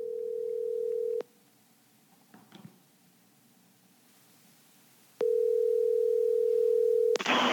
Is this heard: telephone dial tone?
yes